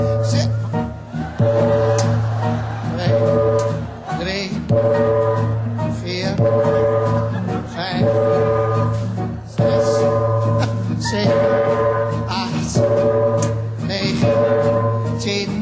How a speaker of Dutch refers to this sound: Als het kerstnacht is geworden. En de kerkklok 12 slaat.